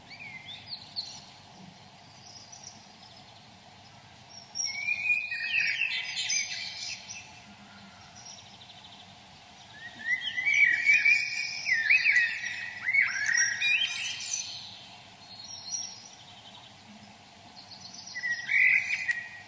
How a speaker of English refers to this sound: And there he is singing to his friends. Okay. So that's the blackbird.